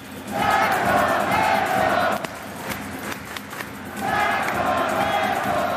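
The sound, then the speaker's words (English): A loud arena crowd of about 16,000 roars and cheers at a Kings game on a Saturday night in a 17,000-seat arena, two big swells of noise separated by a brief lull with scattered shouts, dense and sustained, no clear talking. “Even when the crowd maybe isn't that big, when it's a close game at the end, it is loud.”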